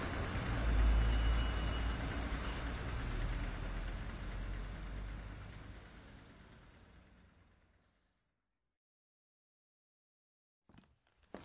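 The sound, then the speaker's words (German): A bus engine idles with a loud, low rumble that gradually fades out, leaving silence before a brief clunk near the end. “Gott sei Dank, nennt sich der Bus.”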